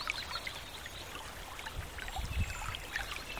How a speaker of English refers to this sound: The sound of water flowing around stones is soothing, a soft, steady trickle that seems to blend perfectly with the quiet of the forest.